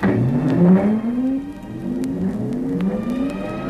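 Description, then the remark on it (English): Cedric's Super Time Machine starts up at the press of a button with a loud, whirring mechanical hum whose pitch climbs steadily in two rising sweeps, like an engine revving up, with no voices over it. “Right now, how'd you like to step aboard Cedric's Super Time Machine for a quick peek at the future?”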